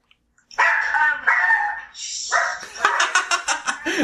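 A dog barks, a drawn-out, high-pitched whining bark followed by a quick run of sharp yapping barks, loud and with no talking over it.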